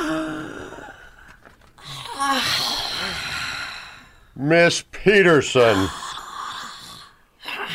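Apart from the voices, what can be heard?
woman yawning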